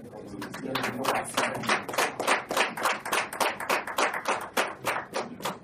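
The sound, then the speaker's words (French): An audience applauds steadily to welcome a man of God and his team, many hands clapping in a dense, rhythmic patter that stays fairly loud throughout, with a few faint voices mixed in underneath. “Est-ce qu'on peut les accueillir sous vos applaudissements, s'il vous plaît?”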